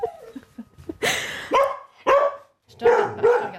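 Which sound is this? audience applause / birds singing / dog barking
dog barking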